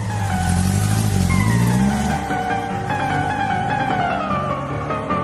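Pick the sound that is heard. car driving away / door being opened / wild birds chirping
car driving away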